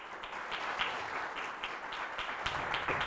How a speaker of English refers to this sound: Can we give them both a round of applause? Thank you for their time.